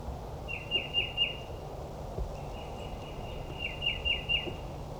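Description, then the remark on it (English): Two wild female birds, one of them green, chirping in two quick bursts of three or four bright, high-pitched notes, with a thin steady whistle-like tone in between, over a low rumbling background. No one speaks. “Both wild birds are females.”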